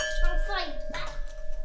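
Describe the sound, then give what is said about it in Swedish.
A brief ringing clink of glass, with a sustained bright tone hanging under a voice that rises and falls, sounding like drinking glasses touched together in a toast. “Ja, skål.”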